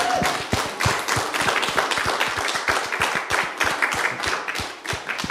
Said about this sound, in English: Just real quick, if you're a mother, go ahead and stand up real quick. Så hvis du mor, reis deg opp. We just want to honor you. So the rest of us, let's go ahead and clap. Vi ønsker å ære dere.